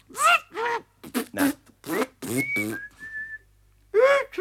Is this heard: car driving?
no